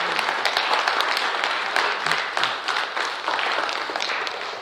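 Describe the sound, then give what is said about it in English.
A crowd applauds steadily for several seconds for all the moms, a dense, even wash of many hands clapping at a fairly loud level with no talking over it. “Let's give all the moms a nice round of applause.”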